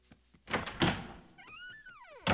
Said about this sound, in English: He herds the other girls out and slams the door.